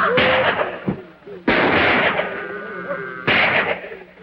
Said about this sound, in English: He shoots again.